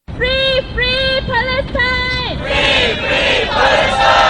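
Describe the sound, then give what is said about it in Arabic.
A large crowd of east London school students on a pro-Palestine march chants a slogan of shame on the country's authorities in unison, four rhythmic shouted bursts with strong harmonic voices, then the chant dissolves into a loud, sustained roar of many overlapping voices. “واليوم خرج طلاب مدارس شرق لندن من الفصول الدراسية للمشاركة في مسيرة مؤيدة لفلسطين، وهم يهتفون العار على السلطات في البلاد، لا سيما بعد أن صوت النواب البريطانيون على رفض مقترح يدعو إلى وقف فوري لإطلاق النار في غزة.”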